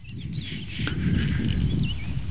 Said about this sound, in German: Und das ist jetzt aber ein Kleiber. Der Kleiber eröffnet sozusagen. Eröffnet das Duett.